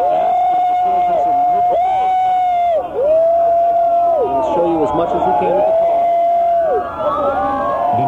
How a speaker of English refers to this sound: There it is with the emergency lights on. And you hear people shouting. You can see all the police cars behind.